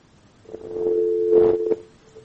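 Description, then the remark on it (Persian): A steady phone-line tone hums for just over a second after a listener's call to a call-in show drops, with a few brief clicks and noise bursts over it, then cuts off into near silence. “بله، خب تلفنشان قطع شد.”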